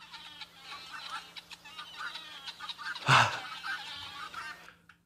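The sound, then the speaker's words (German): A flock of vulturine guineafowl chatters in a dense, continuous clamor of harsh, overlapping calls, with a louder burst of squawking near the middle before the chorus fades out. “Und jetzt die neue demokratische Hymne. Der Gesang der Geierperlhühner.”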